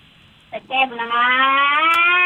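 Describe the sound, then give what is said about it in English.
A siren or alarm winds up over a caller's narrow phone line, a loud, buzzy tone with strong harmonics that climbs steadily in pitch and holds, after a couple of brief bursts of noise. “Some ambulance fired up in your driveway? Some alarm went off.”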